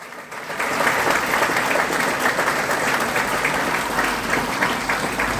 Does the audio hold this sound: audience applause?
yes